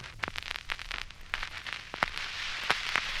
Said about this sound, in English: Almost 2 hours, and there's still spasmodic explosions from the oil in the back part of the dirigible.